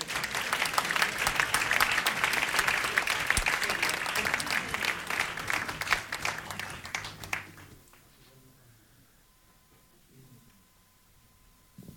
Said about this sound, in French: On l'applaudit.